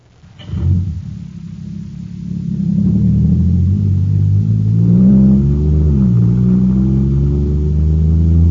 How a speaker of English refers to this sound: Wow, this jet cycle is supercharged now. Sure thing, it's got super fuel.